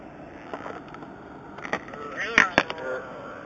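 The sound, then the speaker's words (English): A Jeep engine is revved in a short burst with the pedal barely pressed, its rumbling tone rising and falling, with people talking over it and a few sharp clicks and knocks along the way. “Should I rev it? I wanted to. Oh my gosh, that sounds amazing. In a Jeep.”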